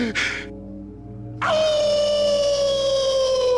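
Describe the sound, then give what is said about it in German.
A person howls like a wolf: one long, loud, sustained wail that slowly sinks in pitch, following a short breathy burst and a brief pause. “I'm the wolf, yeah! I am the wolf!”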